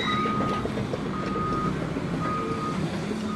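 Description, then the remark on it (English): Construction equipment tears up a parking lot by the Merced River in Yosemite National Park: a steady heavy engine rumble with clanking, while a vehicle's reversing alarm beeps in a repeating pattern over it, with no talking. “Traffic in the park is especially bad today because construction crews are tearing up a parking lot.”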